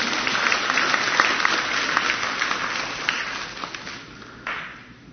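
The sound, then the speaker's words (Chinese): A church audience claps steadily in dense, sustained applause for the worship team dressed in purple, with scattered sharper claps standing out, tapering off and thinning toward the end. “我哋又俾啲掌声呢班紫色嘅紫色人啦。”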